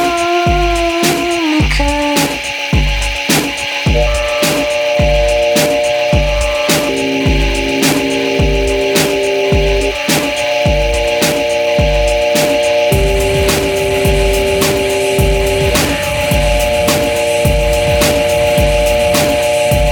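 A loud music remix plays steadily, with a driving, evenly spaced beat under sustained synth-like tones and bright noisy texture. No one speaks.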